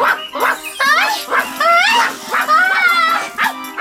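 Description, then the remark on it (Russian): A dog named Zhuchka barks repeatedly in quick, loud, yelping bursts as it runs up, about six barks in a few seconds with rising, whiny tones and no pauses long enough to call silence. “Ну вот, и лиса убежала, и жучка прибежала!”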